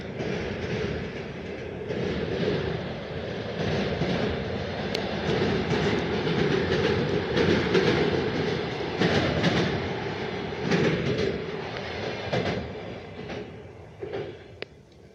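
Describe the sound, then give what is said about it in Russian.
A freight train rumbles past on the rails, a steady loud roar of wheels with rhythmic clacking and occasional metallic clicks, sustained throughout before easing slightly at the end. “Поезд проехал.”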